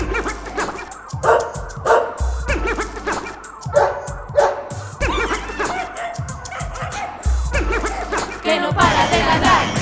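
dog barking

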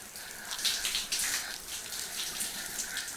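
shower water running

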